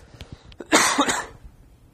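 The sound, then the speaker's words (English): A harsh cough bursts out for about half a second, preceded by a few faint breathy sounds, then fades into quiet background noise. “Something so I can stop coughing for a second.”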